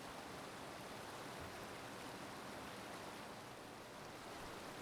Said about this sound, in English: Let's just enjoy this waterfall for a while. I know. That is beautiful, isn't it?